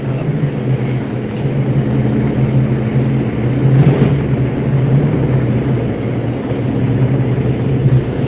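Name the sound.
car interior engine noise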